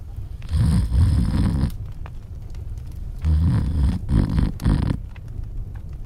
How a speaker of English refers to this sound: And it went on singing till the giant fell asleep, and he began to snore like thunder.